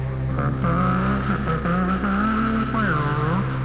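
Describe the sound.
A voice imitates a monster truck's engine roar, a loud, continuous growling rumble that rises and falls in pitch like revving, alone for several seconds.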